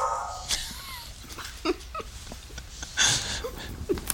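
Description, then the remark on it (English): A female dog barks a few times in short, irregular bursts, with the loudest near the end, mixed with faint whiny yelps over a quiet background. “She knows when to bark, eh?”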